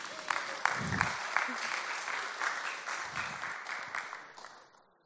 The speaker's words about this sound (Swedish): Ge honom en applåd.